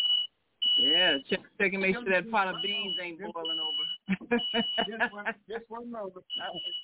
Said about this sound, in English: Sounds like somebody's fire alarm going off. That was mine.